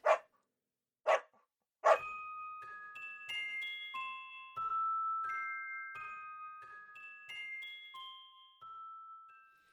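A dog barks three times, loud, in quick succession, then a gentle tinkling melody of bell-like tones takes over and plays on to the end.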